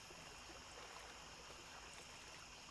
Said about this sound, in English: Enjoy these 10 allegedly true scary stories from the lake. As you take in the relaxing sounds of water and nature.